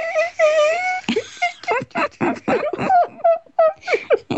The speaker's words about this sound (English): And then they recorded these mice doing fun things with each other, and they did laugh. They upped the sound so much, you couldn't hear it, but when they upped the sound, you could.